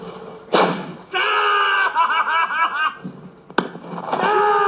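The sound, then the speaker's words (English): Two sharp, loud gunshots fired by athlete Oscar Pistorius ring out about three seconds apart, each followed by high-pitched shrieks and excited laughter from people. “And in these pictures uncovered by Sky News, the athlete shows his prowess at handling a gun.”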